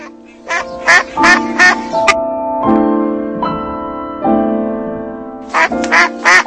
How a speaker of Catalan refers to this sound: En fi, un ànec que ho està passant molt malament.